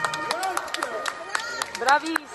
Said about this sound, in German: Es klingt seltsam, aber Menschen klatschen. Im Hintergrund hört ihr die Polizei. So war das gestern.